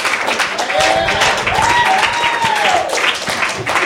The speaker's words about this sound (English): That applause is for God, because it is his spirit in me that's got me up here.